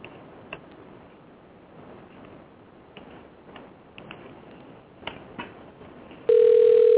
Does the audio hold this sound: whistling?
no